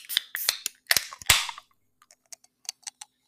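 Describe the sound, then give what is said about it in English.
Cans of Smirnoff Red, White and Berry seltzer being cracked open: several sharp metallic cracks and pops in quick succession, one followed by a brief hissing fizz, then a scatter of fainter clicks and taps. No one speaks. “Well, I guess the cans are getting started, yeah?”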